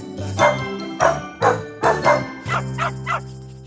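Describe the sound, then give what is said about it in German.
Sombra, a drug-detection dog in Colombia who works at an airport, barks repeatedly, about seven sharp barks in an uneven rhythm, the last few quicker and a little softer, over a low steady tonal background, with no talking. “Sombra ist eine Hundeheldin in Kolumbien, hat aber auch hier in Deutschland mutige Kollegen.”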